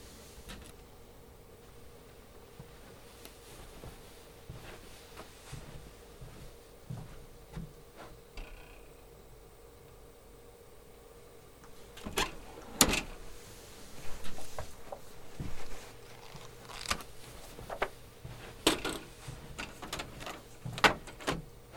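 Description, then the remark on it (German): Quiet background with a steady hum, then a cabinet door opens and a run of clicks, thumps and rustling follows as paper is taken from the cabinet and pushed into the tray of a printer that had no paper. No talking. “im Drucker ist kein Papier. Na, dann leg doch Papier hinein. Papier liegt im Schrank.”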